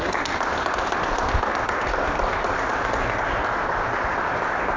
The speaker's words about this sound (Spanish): Un aplauso para el señor pastor.